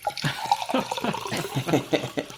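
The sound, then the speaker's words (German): A red wine spritzer being poured, a short gurgling stream of liquid splashing into a glass with uneven bubbling bursts, lasting a couple of seconds. “Ich mach mir, hört man auch gleich, roten Spritzer.”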